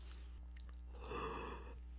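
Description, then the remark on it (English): A single muffled cough, moderately loud, lasting under a second with a breathy, rough texture, surrounded by near-silence with no talking. “Or station cough.”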